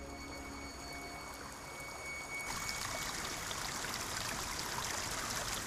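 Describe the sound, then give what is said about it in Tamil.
Clear water flows steadily in a stream, a broad continuous rushing and trickling that swells in after a couple of seconds and stays constant. No one speaks. “ஓடிக்கிட்டு இருக்க தெளிவான தண்ணிய காட்டுறாங்க.”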